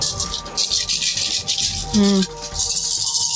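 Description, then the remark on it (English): A steady, bright rattle of dice being shaken in a hand, a dense run of small clicks that continues throughout, with a brief low voiced murmur partway through. “I love the sound of dice rolling.”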